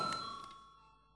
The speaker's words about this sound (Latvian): Paldies, lūdzu zvanu.